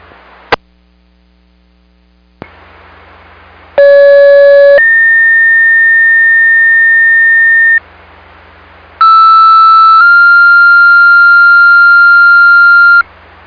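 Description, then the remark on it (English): Two loud, steady electronic dispatch disregard tone sequences for South Haven Fire and Ambulance, cancelling a call for a missing child at the South Pier, play over a low hum. Each is a short pitch followed by a longer held pitch, with a click and brief pause before them; no one speaks. “Okay, 2200, stand by for disregard tones.”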